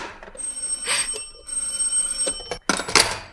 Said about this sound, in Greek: Εμπρός! Εμπρός! Ποιος είναι? Μα τι έπαθε αυτό το τηλέφωνο απόψε?